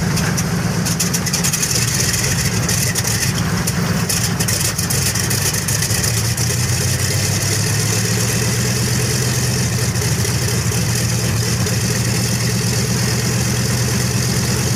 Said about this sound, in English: Sorry, guys, that was the DC-3 starting up, man. There we go. Both engines are now started.